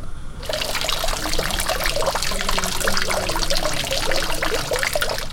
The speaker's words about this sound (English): SFX. Harbor water lapping. Distant gulls. Fade out.